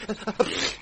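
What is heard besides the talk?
sneeze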